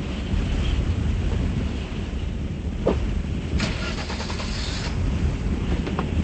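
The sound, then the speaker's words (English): Wind blows steadily outdoors, a dense low rumble that stays loud throughout, with a few brief clicks and rattles breaking through midway. No voices. “Adrian runs out to her car, the wind whipping her long hair into her face.”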